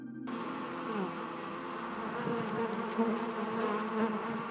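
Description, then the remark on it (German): A steady, dense buzzing of many bees fills an exhibition space at the Kunsthalle Basel, continuous, with slight swells in loudness and no voices. “Es summt, nicht als Effekt, nicht als Kulisse, sondern als Zustand.”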